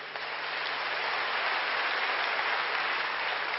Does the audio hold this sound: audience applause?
yes